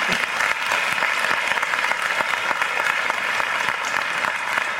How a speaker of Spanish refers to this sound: Todos los padres puestos de pie, por favor. Los padres que están puestos de pie. Un aplauso para todos nosotros.